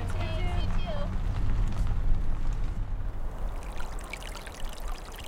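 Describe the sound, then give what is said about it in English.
A steady, gentle flow of water trickles and splashes down through a culvert on a dry mountain, draining into Sabino Creek, with a low rumbling undertone and faint high chirps in the first second. “It's just a trickle, really, coming down through a culvert and draining into Sabino Creek.”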